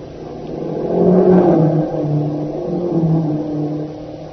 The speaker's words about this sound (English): Hey, they're Jap staff cars, all right. Hurrying toward the west gate of the town.